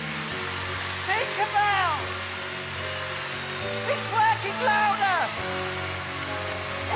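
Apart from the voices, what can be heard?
audience clapping hands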